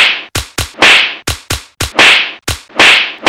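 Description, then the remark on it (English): A rapid flurry of about ten loud, sharp open-handed slaps, a nun striking a schoolboy's face, cracking in a quick uneven rhythm, some short and clipped, others ringing out slightly longer, with no voices. “With the speed of Floyd Mayweather, she rained open-handed blows to his face.”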